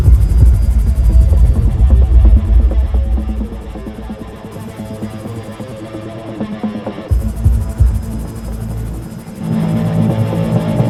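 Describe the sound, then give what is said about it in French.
A video game helicopter armed with a machine gun and missiles: its rotor thumps and whines steadily, swelling louder as it lifts off, with a low engine hum throbbing underneath and a brief dip in the middle. “Ouais, ok, il fera l'affaire cet hélico.”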